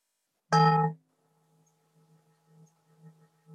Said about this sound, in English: I'm sorry if the bell sounds a bit clunky. I put on original sound for Zoom, but it still doesn't do it very well. So, but you know what the bell sounds like.